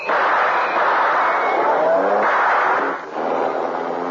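A car engine roars loudly and steadily as it speeds away, the pitch climbing and dropping through a few gear changes, with no voices over the noise.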